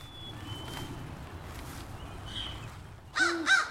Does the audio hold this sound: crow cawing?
yes